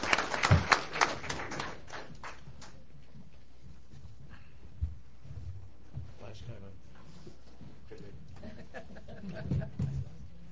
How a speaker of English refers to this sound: So that's a wonderful thing, and the extraordinary staff we work with. So we ought to applaud the staff for doing that.